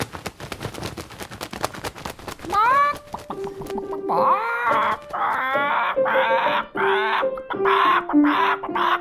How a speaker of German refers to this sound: Und als sie wie sonst auch am Klavier zu komponieren beginnt, kommt ihr Huhn Gackerle reingeflattert und hat auch ein paar Töne mitzureden.